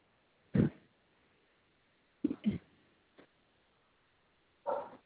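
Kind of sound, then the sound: animal, dogs barking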